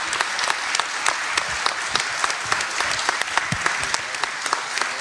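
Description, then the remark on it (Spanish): A church audience applauds the fathers, standing for Father's Day, steadily for several seconds, a dense wash of many hands clapping with sharp individual claps popping out, sustained at an even, fairly loud level throughout. “Vamos a darle un aplauso y decirle Happy Father's Day a todos los papis allá.”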